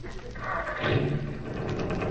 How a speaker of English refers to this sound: Oh, boy, listen to that motor. You'd never guess about this bus secondhand, huh, boy?